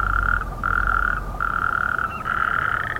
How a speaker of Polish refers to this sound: Godzina 11, wody pełno, tuż przy blokach, jakiś staw. Ale żab coś nie słychać. Chociaż, o! Są, pływają. Tylko coś niechętne są, żeby porechotać o godzinie 11. Przychodzi wieczór, to dopiero tu hałasują.